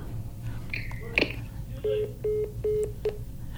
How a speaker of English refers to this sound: So hold on, I think my caller is actually calling my cell phone. Hello.